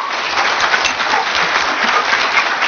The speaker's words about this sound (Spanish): asociándote a una empresa que es la compañía de Amo, y para quien le pido un aplauso, esa es la empresa que nos respalda a nosotros.